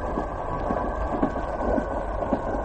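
A train rumbles steadily along on a rainy night with a heavy low roar, punctuated by irregular clattering jolts and rattles as the cars bounce over a bumpy stretch of track, continuous with no voices.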